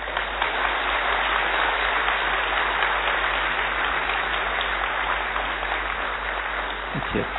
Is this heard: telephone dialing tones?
no